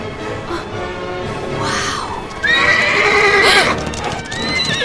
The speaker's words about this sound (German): Vier Wildpferde galoppieren neben dem Zug her.